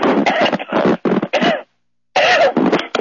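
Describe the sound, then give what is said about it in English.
A loud fit of coughing: several harsh coughs in quick bursts, a brief silent pause, then another rough cough with some throat clearing. “Oh, boy, I'm sorry. I'm coughing pretty bad here.”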